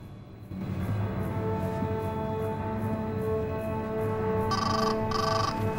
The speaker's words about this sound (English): takes a couple of paces, then gets a call on his phone.